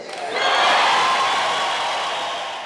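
A dense street crowd in the capital of Zimbabwe roars and cheers continuously at news of Robert Mugabe's resignation, a broad sustained wash of voices swelling early and holding loud throughout; car horns honk, though distinct blasts are hard to pick out within the din.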